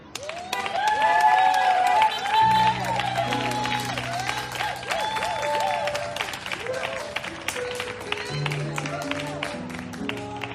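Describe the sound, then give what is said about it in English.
A church audience bursts into sustained applause for a group, dense clapping mixed with cheering voices, while steady keyboard or organ chords come in underneath after a couple of seconds and continue to the end. “Can we all just give them a hand clap of praise?”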